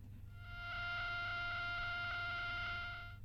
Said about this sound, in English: Okay, it's short, it's sweet, and it's annoying. Very, very annoying, but what is it? Sounds a little bit like a mosquito. It sounds a lot like a mosquito.